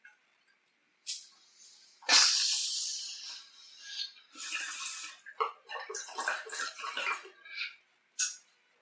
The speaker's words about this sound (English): Let's end with a bong rip. I know I need one. Cheers.